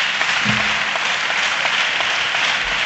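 Sustained applause from a large group fills a reverberant hall, steady and fairly loud throughout, a dense patter of many hands clapping with no voices on top.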